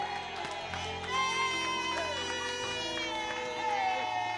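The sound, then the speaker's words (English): A large crowd claps and cheers steadily throughout for the Lord Jesus, the applause blending with sustained music and voices, loud and reverberant. “You will get a car. Clap for the Lord Jesus.”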